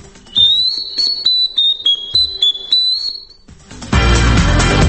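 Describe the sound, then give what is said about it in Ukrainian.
A Ukrainian clay folk whistle (zozulytsia), offered by Ukrainian ethnographers to football fans at Euro 2012, plays a quick run of shrill, warbling high notes for about three seconds, fairly loud, then a loud rushing burst of noise takes over. “Українські етнографи пропонують футбольним вболівальникам на Євро-2012 зозулицю.”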